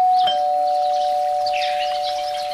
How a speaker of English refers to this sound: when suddenly the doorbell rings.